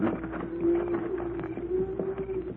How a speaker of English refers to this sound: Cattle are coming this way. Pancho, hear the cattle, Cisco. Now, just why are those cattle moving at this time of day? Somebody moved the cattle, Cisco.